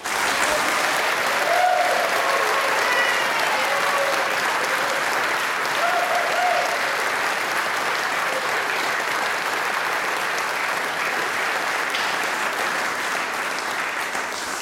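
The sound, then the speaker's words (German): Sustained applause from a large crowd in Franach during a live radio broadcast, a dense steady wash of clapping that stays loud for the whole stretch, with a few faint cheers or whistles rising briefly early on. “Das ist der Applaus aus Franach.”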